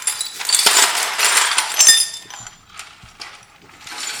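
Brittle glass shards scrape and clink against a hard floor as a piece is picked up. The bright tinkling is busiest in the first two seconds, then fades into a few quieter clicks.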